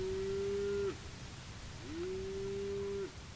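Two long, low moos from a cow, one after the other with a short pause between, each holding a steady droning pitch over a constant outdoor hiss. No one speaks.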